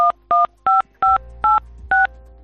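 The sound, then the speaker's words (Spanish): Six phone keypad tones beep in an even rhythm as a security code is keyed directly into a mobile phone, each a short, clear dual-pitched blip, with a faint low hum in the background and no talking. “Por motivos de seguridad es mejor que marque directamente la clave en su móvil y así nadie la puede ver ni escuchar.”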